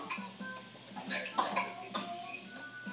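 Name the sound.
person imitating a cough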